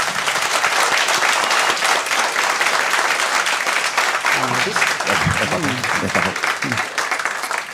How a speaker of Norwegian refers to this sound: En liten applaus.